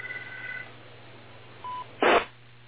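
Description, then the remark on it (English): A short electronic telephone tone sounds, followed by a brief single beep and then a sharp burst of noise like a handset being picked up, with no one speaking. “Oh, there goes the phone.”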